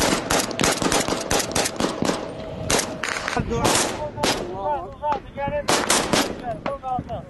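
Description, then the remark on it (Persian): Rapid, sustained gunfire from Iraqi military forces and Popular Mobilization fighters firing nonstop as they advance against ISIS toward Mosul, with repeated sharp bursts and heavier booming shots, dense, while indistinct voices shout intermittently underneath. “در مقابل نیروهای نظامی و بسیج مردمی عراق با چنان ضرب آهنگی بدون توقف شلیک می‌کنند و پیش می‌روند.”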